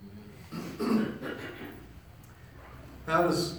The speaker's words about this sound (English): excuse me. You don't want a preacher clearing his throat this time of year.